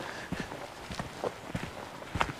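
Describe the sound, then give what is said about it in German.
Footsteps crunch steadily along a metre-wide trodden footpath of stones with a little gravel scattered on it, each step a short scraping crunch in an even walking rhythm, moderately quiet, with no one talking. “Und jetzt bin ich runter von dem Holzpfad, Holzsteg, und jetzt laufe ich hier auf einem Trampelpfad, Meter breit, Steine und ein bisschen Kies drauf geschüttet.”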